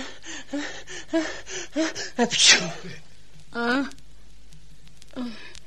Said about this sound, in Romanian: Îmi vine să strănut. Țineți-vă pentru Dumnezeu. O să speriați pe majestatea sa.